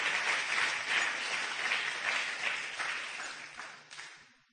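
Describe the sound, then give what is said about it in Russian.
A large crowd applauds steadily for the Lord after a prayer, a dense wash of many hands clapping at once that holds for several seconds before thinning out and fading at the end. “Давайте дадим Господу аплодисменты.”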